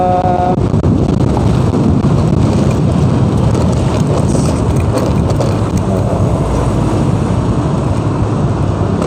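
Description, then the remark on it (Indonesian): A loud, steady roar of wind buffeting the microphone over a low engine rumble, recorded while riding a motorcycle. The noise is continuous throughout, with no talking. “Capek juga ya kajian di motor.”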